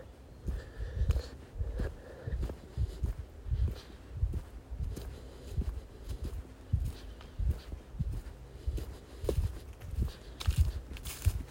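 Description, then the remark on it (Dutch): Steady footsteps crunch along outdoors at an even walking pace, moderately loud, with a faint background hum and no talking. “Dan ga je gewoon weer terug naar je ademhaling. Naar het lopen.”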